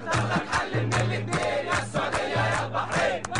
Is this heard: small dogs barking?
no